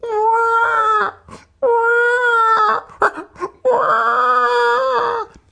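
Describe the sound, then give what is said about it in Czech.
A hungry baby cries loudly in three long, sustained wails, each broken by short gasping breaths, with no talking in between. “Takový křik, jaký dovedou jen hladová miminka.”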